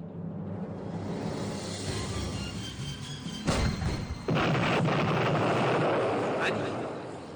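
An Iraqi tank fires a shell with a sharp, heavy blast during a battle, then a second later a loud explosion erupts into a sustained roaring rumble, all over a steady background of wind-like noise.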